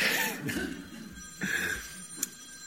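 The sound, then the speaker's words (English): A phone rings with a repeating electronic trill during a church service, a few bursts echoing at moderate volume, with faint background murmur and no clear talking. “I wonder if sometimes, and I don't wonder, I know, that often we should turn our phones off before we come to church.”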